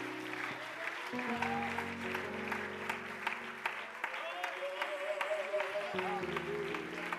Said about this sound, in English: Why don't you give the Lord one more hand clap of praise as the man of God comes.